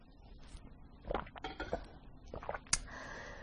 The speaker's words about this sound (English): Okay, one more sip of coffee.